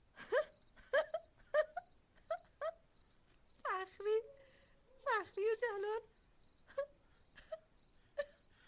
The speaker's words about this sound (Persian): وقتی گریه کردن نیست.